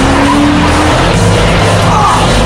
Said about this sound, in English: A pursuing car spins off.